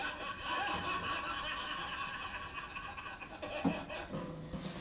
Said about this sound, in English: Bloody dogs.